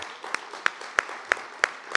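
Audience applause in a steady rhythm as the next poet makes her way onto the stage: about six sharp, evenly spaced claps ring out over a faint, hissy background murmur of softer clapping. No one speaks.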